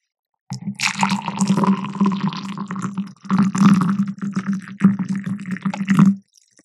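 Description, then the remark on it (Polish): Hot tap water pours steadily into a glass for several seconds with a gurgling, splashy rush and a low resonant hum, briefly pausing midway before continuing, with no talking; part of a test pouring cold and then hot water into two glasses. “To była zimna, a teraz gorąca.”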